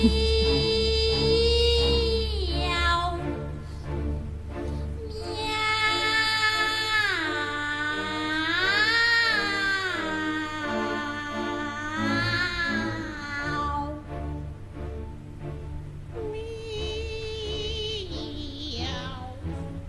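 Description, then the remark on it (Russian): Two voices sing drawn-out, sliding "meow" phrases with operatic vibrato, imitating cats in a playful duet over steady piano accompaniment, loud throughout. “Дуэт кошек Россини.”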